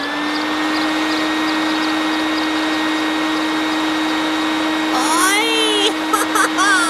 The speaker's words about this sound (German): Er fliegt mit seiner Handwagenrakete am Mond vorbei bis zum Knopfstern. Und jetzt wirft Pitti zur Probe den Motor an.